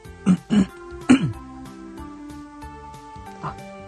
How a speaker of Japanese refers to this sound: 私ミュートにしとったんか。 なんか咳しとったけん、ミュートにして咳しとるんかなと思ったけど、戻ってこないけん、あれって思っとった。